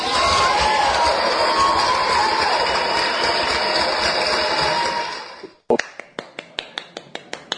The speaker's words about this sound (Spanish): Te doy yo el aplauso.